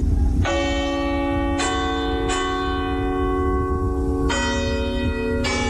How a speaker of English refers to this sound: I'm going to continue to call that the Shandon bells chimes then.